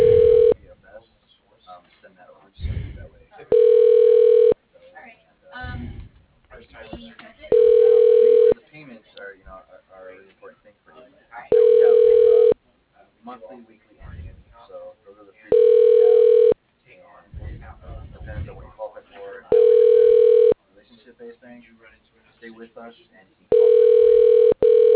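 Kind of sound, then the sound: signal or alarm, telephone line tones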